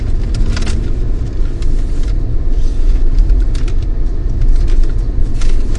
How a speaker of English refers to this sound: I hate busy streets. Suddenly this clumps of cars slowing down.